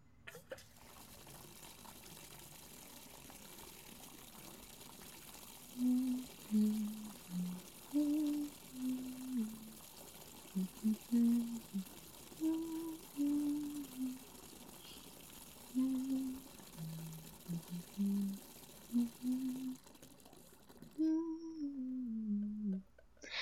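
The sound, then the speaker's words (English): Water gushes steadily from a tap into a bathtub as a mother runs a bath for her child, a constant rushing fill, with soft wordless vocal tones drifting over it before the flow cuts off near the end. “Now, Mommy needs to run the bath, okay?”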